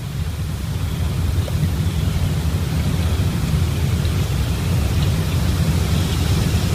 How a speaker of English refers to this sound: You can hear the wind in the pine trees a little bit. That's the high frequency sound. But if you hear that roaring sound, like a train or a jet, that's wind through the tower.